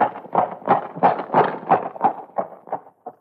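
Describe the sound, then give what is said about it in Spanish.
Horse hooves clip-clop in a steady, even rhythm, about ten hollow knocks over a few seconds, moderately loud, as a rider urges the horse on out of a river, with no voices over them. “Arre, arre, arre, caballo, vamos.”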